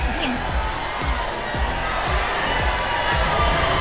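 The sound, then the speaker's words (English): A dense crowd murmurs continuously as someone pushes through it toward the door, many overlapping voices blending into a steady babble with occasional louder exclamations rising out of the din. “I keep my head down and push for the door, wading through the exotic crowd, trying to stay lost in it.”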